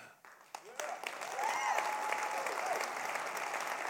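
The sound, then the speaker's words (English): An audience breaks into clapping that starts with a few scattered claps, then swells within a second into sustained, dense applause, with voices calling out and cheering over it. “And when you hear powerful news at church, you don't clap.”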